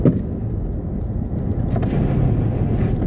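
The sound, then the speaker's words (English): A small car with a little four-cylinder engine and a loud, raspy aftermarket muffler drones past, its low rumbling exhaust note steady and prominent for a few seconds with no talking. “Little piddly car with a little four-cylinder engine got that muffler.”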